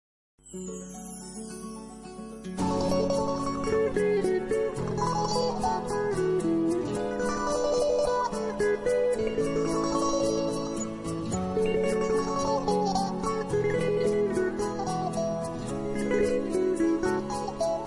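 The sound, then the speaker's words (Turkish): A song plays over the radio, opening with a brief soft intro before the full band kicks in and carries on steadily, loud and continuous, with no one talking over it. “sırada … ve …'ten …'yı dinliyoruz”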